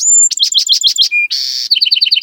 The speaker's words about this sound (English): …, author of The Singing Life of Birds, says, "This is the time of year a male Buick's wren is running through his entire repertoire. In the Seattle and Portland area, they have a range of about 15 to 20 different songs.